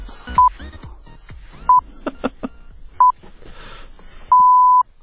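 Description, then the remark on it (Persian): A time-signal beep sequence played before the news: three short, evenly spaced mid-pitched pips, then one longer tone of the same pitch, with faint clicks and clatter in the gaps. “برو بوق آخره بزن، بگو بچا بیان خبر بخونن.”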